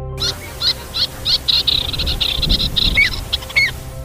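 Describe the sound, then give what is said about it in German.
A pied avocet, a graceful bird the size of a pigeon, calls repeatedly, a rapid run of sharp, high piping notes, clear over a low steady background rumble, with no one speaking. “Der Säbelschnäbler ist ein anmutiger Vogel von der Größe einer Taube.”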